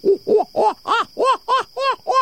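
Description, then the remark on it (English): An owl gives a rapid series of about eight hooting, whooping notes that rise and fall in pitch, sounding strangely like monkeys chattering, loud with no talking. “And that's when you're most likely to hear their food begging calls, as well as that surreal call that sounds more like monkeys than an owl.”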